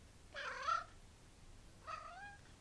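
A cat named Bibber meows twice, a longer rising-falling call followed after a pause by a shorter, softer one, with no talking.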